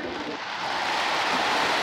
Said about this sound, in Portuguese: Pela manhã começou a chuva.